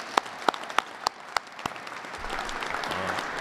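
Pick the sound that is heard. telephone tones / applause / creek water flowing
applause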